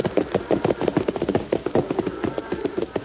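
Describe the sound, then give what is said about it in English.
Steady crackling and popping of the rustlers' wood campfire, with dense irregular snaps throughout, moderately loud and sustained with no voices over it. “Their campfire.”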